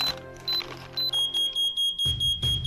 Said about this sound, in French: L'alarme a été déclenchée. La bombe va éclater dans 10 secondes.